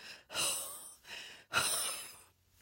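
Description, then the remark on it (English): Heavy, laboured breathing from a person struggling to breathe: four harsh, airy breaths in quick succession, alternating sharp gasping inhales with rough exhales, loud and unaccompanied by speech. “It's so hard to breathe.”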